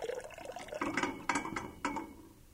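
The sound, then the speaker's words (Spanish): Water splashing as someone bathes, with several sharp sloshing bursts at irregular intervals over a continuous liquid wash, no voices. “¡Ay, qué rica está el agua! ¡Agua!”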